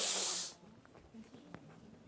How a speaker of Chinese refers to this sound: 来来来，看这个鲸豚，它的鼻子是在嘴巴上面这个鼻孔吗？不是啊，它在背部啊。背部啊，上面那个东西喷，它的喷气孔啊，有没有？